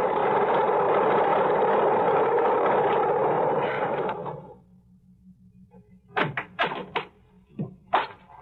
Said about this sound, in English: I am listening to the most beautiful sound in the world. I got to the airport just as the plane taxied up the strip. Single engine job. Just great.